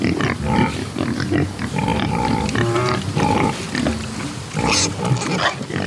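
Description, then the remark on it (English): Dozens of black Iberico pigs grunting and snuffling while rooting in dirt and wallowing in muddy puddles under a pecan tree in Georgia, overlapping low grunts and occasional higher squeals in a steady, busy jumble with no talking. “Finally, we get to what I really came here to see. Iberico pigs. Dozens of them.”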